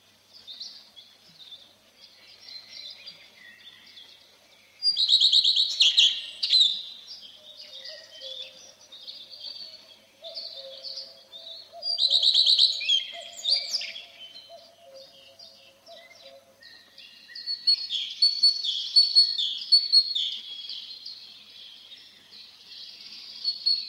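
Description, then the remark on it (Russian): A common redstart sings short, bright warbling phrases, repeated every several seconds, clear, with softer chirps and a faint lower call from other birds in the background. “Это песня садовой горехвостки.”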